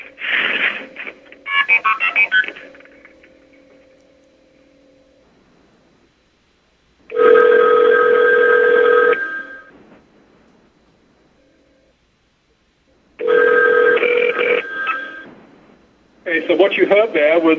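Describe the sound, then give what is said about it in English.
A quick burst of short MF signaling tones sent from a 5 crossbar telephone switch to a 3 crossbar switch, a steady hum, then the called phone on the 3 crossbar ringing in long two-second bursts separated by silent gaps, heard through a slightly rough radio connection. “The MS being sent from the 5 crossbar to the 3 crossbar, and then shortly after that, you heard the phone ringing.”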